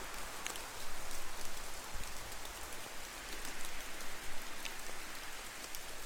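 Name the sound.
distant rain falling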